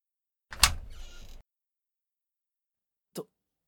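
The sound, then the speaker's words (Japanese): A door opens with a sharp mechanical clack followed by a brief rolling slide, then silence and a single short thud about two seconds later, with no voices. “扉が開いた。”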